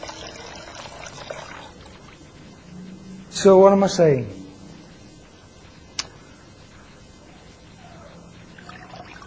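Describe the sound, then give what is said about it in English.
Water trickles and dribbles steadily from a soaked sponge being soaked to wash a car, a soft, splashy patter, with a brief louder squeaky burst midway and a single sharp click. A person speaks briefly. “You can see that, that's got some water in.”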